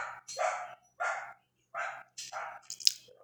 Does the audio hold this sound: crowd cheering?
no